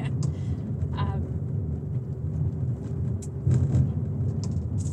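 car interior road noise

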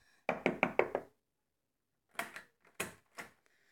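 knocking on a door

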